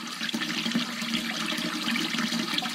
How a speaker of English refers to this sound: And oops, I left that hose on. Water was again out of control.